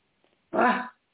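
animal, dog barking

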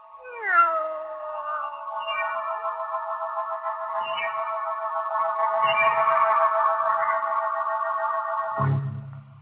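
animal, cat meowing

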